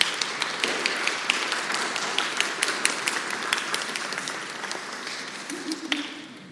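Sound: audience applauding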